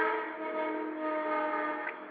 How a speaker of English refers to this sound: There go that train again. Oh, I thought that was a new sound effect. There go that train again. Yes, that was a new sound effect for the show, honey.